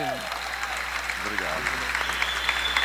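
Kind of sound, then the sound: crowd, audience applauding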